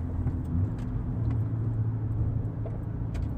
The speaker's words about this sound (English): I hope this recording actually worked out, even though we're in my car instead of my wife's, which is, my car's going to be a lot louder. It is definitely going to be a lot louder.